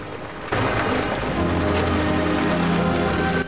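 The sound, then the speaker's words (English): After a brief quiet moment, a thunderstorm bursts in at night: torrential rain pours loudly and steadily, with lightning and a deep low rumble of thunder rolling underneath. “runs down to a wide sandy beach, the storm coming to electrical life above her”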